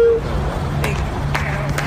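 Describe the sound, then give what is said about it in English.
Three sharp hand claps ring out at uneven intervals from someone in a car parked next to the speaker's, set against a steady low rumble of idling vehicles; nobody speaks. “Who's clapping?”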